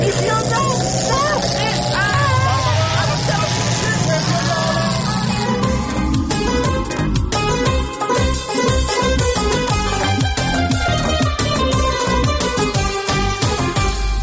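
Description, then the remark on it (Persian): A loud sci-fi time machine powering up after being reset: rising whirring tones swell over a dense mechanical rumble, then settle into a steady pulsing, clattering drone that runs continuously to the end. “ماشین زمانه چه شد؟ دوباره من اینو پیش تنظیم بشیرم شروع کرد به کار کردن.”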